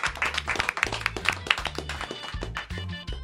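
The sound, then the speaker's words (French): A burst of applause as a Radio Nord-Bretagne team applauds itself at the end of a broadcast, many hands clapping in a dense, irregular patter of sharp claps at steady loudness, with a low hum underneath throughout. “Merci en tout cas, je crois que je peux vous applaudir et on peut s'applaudir.”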